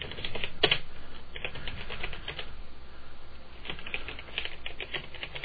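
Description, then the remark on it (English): Rapid, uneven clicking of computer keyboard keys as a short sentence is typed into a Notepad document, moderately loud, in bursts with brief pauses over a steady low background hum; no one speaks. “Okay, and I don't know if you can hear my keyboard at that time, but I was typing, but WindowEyes wasn't voicing every key as it normally would.”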